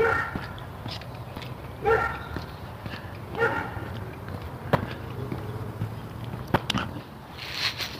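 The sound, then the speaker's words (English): A dog on the other side of a fence barks in short bursts at a golden retriever being trained to sit at the curb, muffled and repeated every second or so, over a steady low hum and faint insect-like buzzing with occasional sharp clicks. “Schooling her golden retriever to sit at the curb in spite of the fact that there's a dog on the other side of the fence barking at it.”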